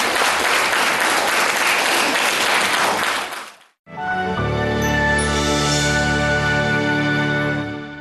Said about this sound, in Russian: Вечер православной музыки подарил всем пришедшим на концерт теплые впечатления, которые подарили, несомненно, талантливые артисты Гавриловского хора. А взамен зрительный зал щедро одарил мастеров исполнения бурными аплодисментами.